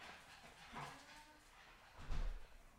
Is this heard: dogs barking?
yes